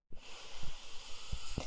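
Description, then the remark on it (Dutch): A long, steady deep breath drawn in, heard as a soft airy hiss lasting over a second, with a few faint low thumps underneath and no talking. “En neem nog eens diep ademhaling. Diep in.”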